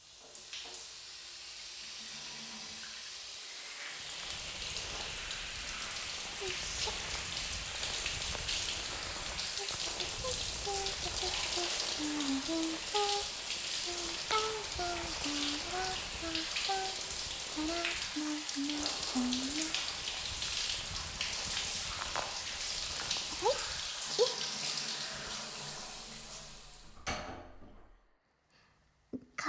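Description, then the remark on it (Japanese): A shower runs in a steady, full hiss of spraying water for about twenty seconds, rinsing hair again after conditioner, with faint pitched squeaks in the middle before the water shuts off abruptly. “よし、もっかいシャワーね。”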